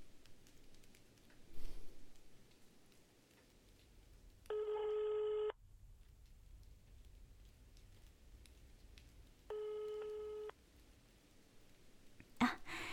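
telephone dialing and ringing

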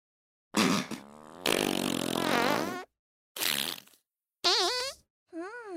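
fart

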